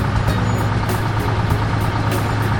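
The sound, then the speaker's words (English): A cement truck's heavy engine idles steadily and loudly, a constant low diesel rumble with no pauses, filling the whole stretch without any talking. “Bring the wheelbarrows to the cement truck.”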